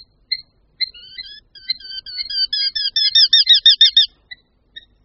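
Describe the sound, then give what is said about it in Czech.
Eurasian hobby calls: sharp, ringing notes that start sparse, quicken into a loud, rapid run of repeated cries, then trail off to a few isolated calls, with no one talking. “Ostříž totiž má raději otevřenou krajinu, kde se volné plochy střídají s menšími lesíky či remísky a v rozsáhlých a souvislých lesních porostech bychom ho marně hledali.”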